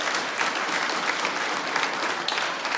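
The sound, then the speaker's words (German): Steady audience applause for a young, talented musician fills the whole stretch, a dense, even patter of many hands clapping at a fairly loud level with no voices over it. “Einen Applaus für diesen jungen, talentierten Musiker.”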